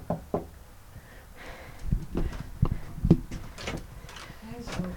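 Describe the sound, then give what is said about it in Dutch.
A handful of sharp knocks on the door of an artist's studio where a painter is at work come at uneven intervals, some in quick pairs, over a faint background murmur. “Ik klop even aan.”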